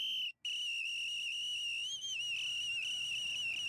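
A shrill police whistle is blown hard by a policeman on a stairway to summon more police: a quick first blast, a brief break, then one long, piercing, slightly warbling blast lasting several seconds, loud.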